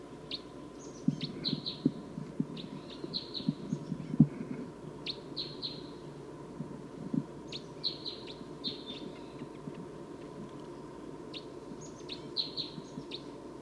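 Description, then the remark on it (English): Decoy crossbills give short, sharp chip calls in quick clusters, repeating every second or two over a steady low rumble of background noise; nobody speaks. “The decoys are calling.”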